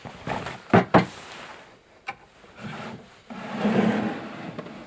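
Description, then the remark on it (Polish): A wooden drawer of an old table in a great-grandmother's room scrapes and rubs as it is pulled, with a couple of sharp knocks early on, a brief click, then a longer grinding slide, moderately loud, with no talking. “To jest stół, z którego mam szufladę. Tutaj jest, widać, że wyciągnęłam.”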